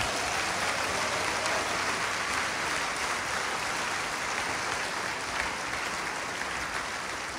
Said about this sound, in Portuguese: Dá uma salva de palmas para o Senhor, que agora ele está merecendo.